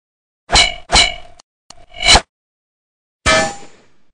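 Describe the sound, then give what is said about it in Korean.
Heavy metallic clangs of a red-faced man's big hammer clashing against a treasured sword in a fight: three quick ringing hits, a couple of soft taps, then a fourth loud clash that rings out and fades. After several clashes the hammer is split in half by the sword. No one speaks. “이렇게 몇 번을 거듭한 후 붉은 얼굴 사나이의 큰 망치가 보검에 의해 반으로 갈라졌다.”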